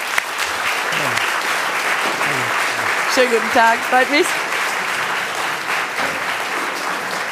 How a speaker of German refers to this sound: Ein herzliches Willkommen, ein tosender Applaus möchte ich sagen, dem Bundesgesundheitsminister Dr. Karl Lauterbach.